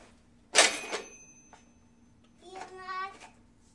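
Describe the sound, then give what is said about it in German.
A cash register drawer clatters open with a short bright ring that lingers, followed by a brief, soft child's voice a couple of seconds later. “Machen wir mal die Kasse auf.”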